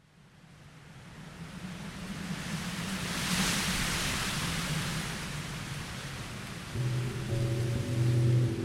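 Walnut tree leaves rustle in a continuous, airy hiss that slowly swells and stays dense, with a low steady tonal drone joining in near the end.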